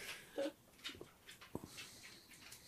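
The pet dog Otto's feet patter faintly across a floor in soft, irregular taps as a door is opened for him to leave, with a brief high whimper early on and no one speaking.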